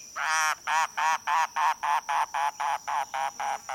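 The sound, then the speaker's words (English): A mangrove cuckoo on Key West gives a steady run of about a dozen harsh, guttural notes, evenly spaced, with nothing else audible around it. “Listening on Key West to mangrove cuckoos and gray kingbirds, you might imagine yourself in Cuba or the Bahamas”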